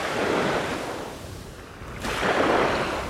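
Waves wash onto a beach at sundown in two broad swells, a hissing surge that fades and then rises again, with a steady breezy rush throughout and no voices.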